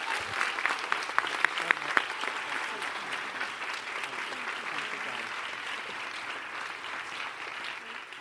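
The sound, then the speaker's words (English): Sustained audience applause showing appreciation for Kathy Lee, a dense wash of clapping that holds steady throughout, with a few sharper individual claps standing out near the start. “Lectern before the applause stops”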